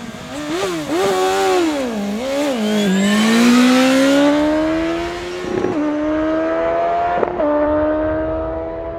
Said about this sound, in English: Did you hear that? There were two roadsters. One was a 165 horsepower BMW S1000R that revs to around 11,000 with an estimated top speed of around 260 kilometers an hour.